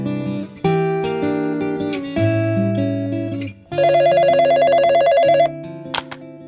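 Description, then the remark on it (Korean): A telephone rings with a fast, warbling electronic trill lasting a couple of seconds, announcing an incoming call, set against sustained background music chords, with no one speaking. “전화 한 통을 받았다.”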